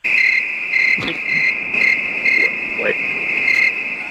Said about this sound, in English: Yeah, you had crickets play for you, Ozzy. That's how you know you've made it.